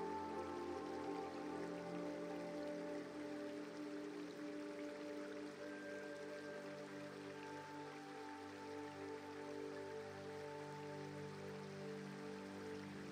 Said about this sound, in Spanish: Y cuando estás trazando un nuevo sendero y cuando de nuevo vuelves a estar fundiéndote entre la naturaleza, descubres un bonito río. Echas a andar a orillas del relajante río.